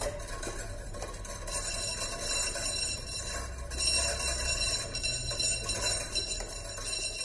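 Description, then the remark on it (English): A wind-driven drawing machine's pen mechanism, driven by the main drive wheel as the wind blows, clicks and clinks in a steady, continuous mechanical chatter over a constant low rumble of wind, with faint high metallic ringing and no voices. “I've got this onto the main drive wheel, and basically when the wind blows, that drives the main wheel around. And that in turn drives the pen mechanism, which is over here.”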